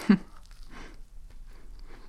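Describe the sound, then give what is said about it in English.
A crisp bite into the crunchy top of a cinnamon-apple pastry at the start, followed by a few soft, muffled crunching chews spaced out over the next two seconds, fairly quiet with no talking. “I like the crunchy top.”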